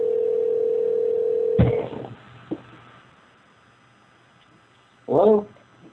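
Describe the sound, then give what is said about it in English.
A steady, low-pitched telephone dial tone hums for over a second as a woman is called back again, then cuts off with a sharp click. A second faint click follows, and a short voice-like burst sounds near the end. “Trying her again.”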